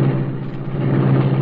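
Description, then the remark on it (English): The engine of the Black Beauty, the Green Hornet's sleek streamlined car, rumbles steadily and loudly as it starts up, with a deep low hum and a harsh mechanical texture; no one is talking. “Britt Reed pressed a button. The great car roared into life.”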